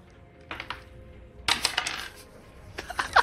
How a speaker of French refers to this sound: Lance les dés. Faut que tu fasses moins de 50.